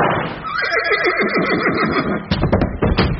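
A horse lets out a loud whinny with a rapidly wavering, descending pitch, followed by sharp clattering sounds near the end.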